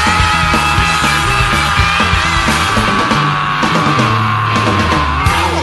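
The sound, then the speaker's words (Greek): A person yells loudly and continuously for several seconds, a harsh, strained shout over a dense, noisy background. “Έτσι θα φωνάζω κι εγώ σε λιγάκι.”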